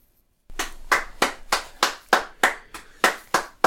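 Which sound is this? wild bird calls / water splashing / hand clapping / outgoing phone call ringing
hand clapping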